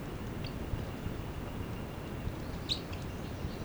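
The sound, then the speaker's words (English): Two brief, high chitters from bird 306, one early and a slightly stronger one later, rise faintly over a steady low rumbling background with no talking. “The chitter by 306.”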